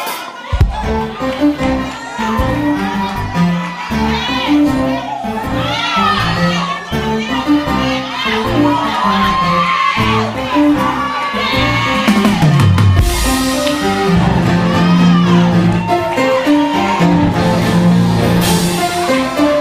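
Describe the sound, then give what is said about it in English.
A large audience shouts and cheers continuously during a pastor's sermon, a dense, loud mix of many excited voices with occasional higher-pitched yells rising above the roar. “Somebody's still shouting because they feel like, Pastor, I'm trying to figure out what's been going on.”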